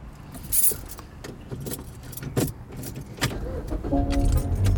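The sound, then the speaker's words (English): Keys jingle and clatter in quick, scattered bursts, then a car engine cranks and catches, settling into a steady low rumble at the end. “Can you start the fucking car and roll the window down so I can get some air?”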